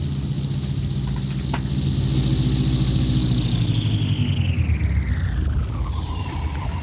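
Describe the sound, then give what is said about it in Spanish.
A car engine rumbles steadily as the car crosses a wide, dusty desert area at night, a high whine gliding downward near the end as the vehicle slows to a stop. No voices. “El auto cruza por una extensa zona cubierta de polvo.”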